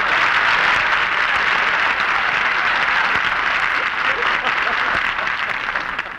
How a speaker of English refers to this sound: Barbara, wait for your applause.